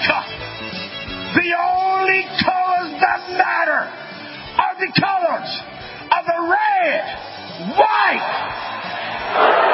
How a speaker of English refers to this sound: They've got the crowd fired up. Folks, there's nothing that replaces passion.